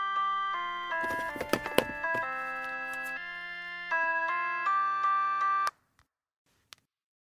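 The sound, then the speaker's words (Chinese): A phone rings with a bright electronic melodic ringtone, a run of stepping tonal notes playing clearly for several seconds before cutting off abruptly, followed by a couple of faint clicks. “前辈，这可是你人生中接的最后一通电话了。”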